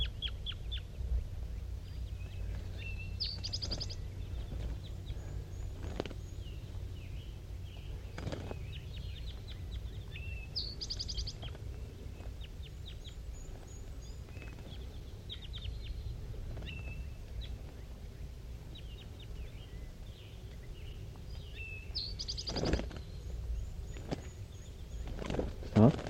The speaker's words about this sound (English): There are two wild birds still around in the top of that dead pine tree, and I can't tell what sex they are because the fog is just so thick. And they're calling pretty softly now, back and forth, 5-3 and the two wild ones.